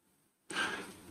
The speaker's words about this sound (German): Ich muss danach immer tief atmen, meine Atemübung machen, damit der Dünnschiss wieder rausgeht aus meinem System. Weil sonst würde ich den ganzen Tag hart atmen.